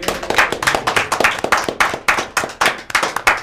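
A large studio audience in Studio 2 applauds during a broadcast, a dense, steady patter of many hands clapping at once, loud, sustained for the whole stretch with no voices on top.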